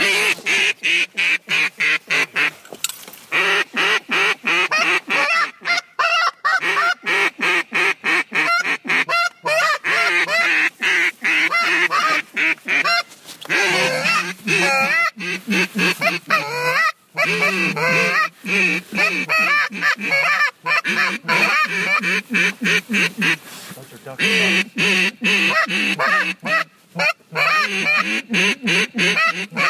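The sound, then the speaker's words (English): A large flock of about 100 geese flying in a V formation honks continuously and loudly, dozens of overlapping nasal calls layering into a dense, chaotic chorus that carries on for the whole stretch without pause. “There is about 100 geese flying in a V right in front of us.”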